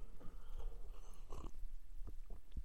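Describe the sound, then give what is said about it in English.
Someone sipping hot Mystic Monk Candy Cane Coffee, a flavored coffee, with a few short, wet slurping sounds in quick succession over a quiet background, and no talking. “I need to have another sip.”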